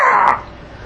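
A single loud, raspy caw from a caged bird, harsh and brief, quickly fading into faint background hiss with no talking.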